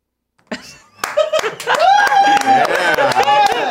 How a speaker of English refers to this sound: Everybody's been getting rounds of applause when they come in today. It's been great.